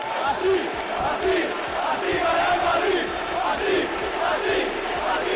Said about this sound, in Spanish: Este es uno de los gritos más conocidos del fútbol español. Así gana el Madrid, que cantan los aficionados del equipo blanco cuando ganan y también sus rivales cuando se ven perjudicados por el árbitro. Este grito cumple hoy 45 años